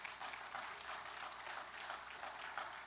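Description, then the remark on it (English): A church audience gives a clap offering to God during a morning service, a dense, even wash of many hands clapping at once with no distinct individual claps, holding at a constant level throughout without voices. “Well, give him a good clap offering this morning, would you?”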